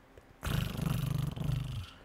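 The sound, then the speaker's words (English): A person imitates a giant cat's roar into a microphone: a loud, rough, growling rumble that starts abruptly, pulses with gravelly texture, briefly dips midway, then carries on for about a second and a half before fading. “Or a giant fat cat.”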